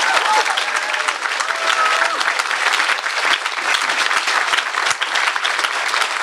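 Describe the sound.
Sustained audience applause, a dense steady clatter of many hands clapping at an even loudness for several seconds, with a few faint voices mixed in.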